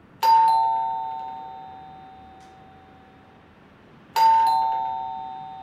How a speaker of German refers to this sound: Das helle Summen der Klingel hallt im Treppenhaus nach. Ein einsamer Ton in einem sonst stillen Gebäude.